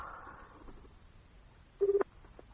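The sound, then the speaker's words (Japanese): A short burst of telephone dialing tones as a call is placed again during a radio broadcast, a few rapid electronic beeps running together for about a quarter second, clear against a quiet background with no one talking. “塚本さんをゲストに迎える放送で、再度電話します。”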